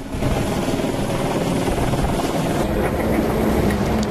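A helicopter's rotor blades begin to whir steadily and loudly as four crates of orangutans are secured in a net beneath it, a dense, continuous chopping roar with a low rhythmic pulse that holds constant throughout.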